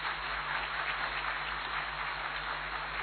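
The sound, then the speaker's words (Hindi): Steady audience applause fills the whole stretch, a dense wash of many hands clapping at an even level with no voices on top. “कितनी महान आप हीरो आत्माएं हैं भाई, तालियां तो बजनी है।”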